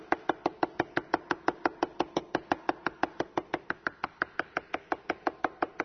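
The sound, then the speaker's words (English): Rapid, steady knocking on a door, around five sharp raps per second continuing without pause for several seconds, fairly loud with no voices. “But sometimes you've got to keep knocking.”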